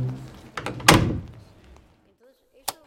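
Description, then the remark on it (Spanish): A few quick knocks on a door, then a heavy bang that rings out and fades. After a short quiet, one sharp knock-like tap sounds near the end. “Y cuando por fin había conseguido adaptarse a ese nuevo cambio, llamaron a la puerta y se llevaron a su padre.”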